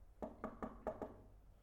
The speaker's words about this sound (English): Now Peter went to the outer entrance and he knocked on the door.